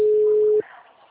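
A phone's ringing tone on an outgoing call to a client's number: a single steady mid-pitched beep lasting about half a second, then cutting off to a faint line hiss.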